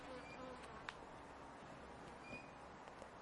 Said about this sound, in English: Oh, there's a bee having a good go at me.